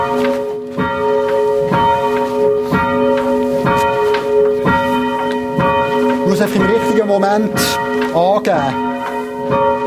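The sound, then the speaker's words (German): The bell of the Zeitglockenturm clock tower is rung by a bell ringer at exactly 5:30, ringing steadily with sustained, shimmering overtones, struck at regular intervals about once a second, while a man speaks over the ringing. “Punkt 5:30 fährt der … mit dem Einläuten an”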